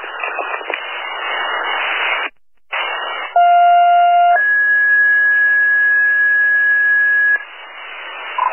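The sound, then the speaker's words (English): Radio static hisses, cuts out briefly, then two steady electronic tones sound in sequence, a short lower tone followed by a long higher one, over a band-limited radio channel: Weston Fire Alarm dispatch tones for a house fire alarm, Box 672. “Weston Fire Alarm announcing alarm of fire. Box 672 has been struck for 506 North Avenue for a house fire.”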